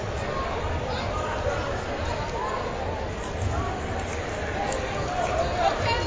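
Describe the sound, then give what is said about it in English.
Steady crowd chatter at a Wakefield versus Melrose high school basketball game, with both student bodies present, a dense wash of overlapping voices with occasional faint thumps and squeaks, holding an even loudness throughout. “Tremendous crowd tonight for both games.”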